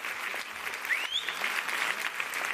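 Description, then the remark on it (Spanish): A theatre audience in La Latina applauds an actress as she takes her bow at the end of the show, before the curtain comes down, in a dense, steady wash of clapping that never lets up, with a single rising whistle cutting through briefly partway in. “Pero hoy queremos precisamente, ya que estamos recorriendo La Latina, recoger ese sonido atronador, porque se caía el patio de butacas cuando ella saludaba al final, antes de que se bajara el telón, y la gente la aplaudía así, con mucho cariño.”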